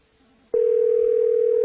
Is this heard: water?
no